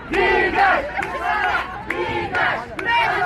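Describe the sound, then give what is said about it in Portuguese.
A large protest crowd in Algeria chants "Go away, Ben Salah!" in unison, demanding the resignation of Abdelkader Ben Salah: loud rhythmic shouted phrases repeating about every second, many voices blending into a dense roar with brief dips between cries. “Em Argel, como também a 100 quilômetros de lá, na cidade de Bouira, gritavam: "Vá embora, Ben Salah!"”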